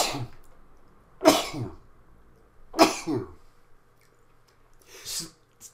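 Three sharp, explosive sneezes burst out, spaced a second or two apart, each a sudden noisy blast trailing off into a breathy tail, with quiet pauses between.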